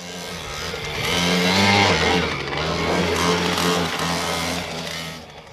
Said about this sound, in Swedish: Och så kommer det 7 stycken mopeder susande.